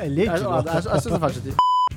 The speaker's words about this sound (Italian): Ti bippo.